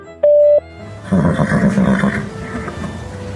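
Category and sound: signal or alarm, voicemail tone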